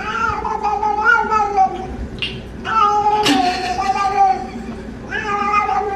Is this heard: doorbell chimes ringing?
no